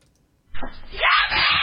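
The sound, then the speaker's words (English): After a moment of near silence, a woman who has been grabbed from behind lets out a loud, strained scream for help that holds for over a second, raw and distressed. “That scream says to me, she is in danger.”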